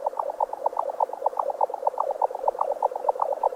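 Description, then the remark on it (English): A Eurasian jacksnipe's call, recorded in a Swedish bog: a rapid, unbroken train of hollow, mid-pitched pulses in a steady galloping rhythm, fairly loud and alone with no voices. “For the kids out there into Euro-style EDM, that's electronic dance music to the uninitiated, the hands-down winner in that category is the jacksnipe of Eurasia, with this eerie, trance-inspired number recorded at a studio in a Swedish bog.”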